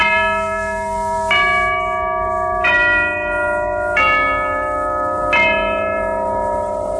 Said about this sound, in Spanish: Ya doblan las campanas, se llevan a mi amor